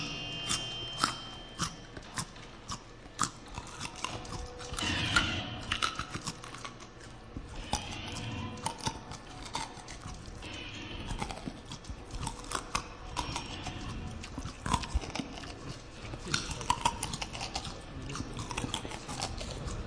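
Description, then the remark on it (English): Someone crunches a raw carrot right up against the microphone, a steady run of crisp, snapping bites and wet munching that continues for the whole stretch with no one speaking. “Chew a carrot very close to the microphone.”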